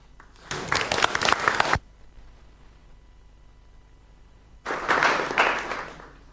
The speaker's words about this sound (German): Oh, Applaus für das Beamer-Team.